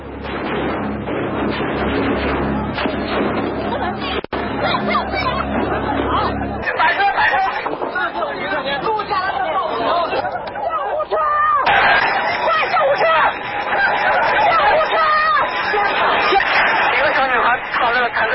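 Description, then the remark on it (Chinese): Live recording from the streets of Beijing on the night of June 3, when martial-law troops used tanks and machine guns on students and residents: a dense crowd shouting and clamoring without pause, many agitated voices overlapping into a loud, steady roar that briefly thins near the middle before swelling again. “以下的一段当时的实况录音剪辑是北京街头的枪声和民众的喊声。”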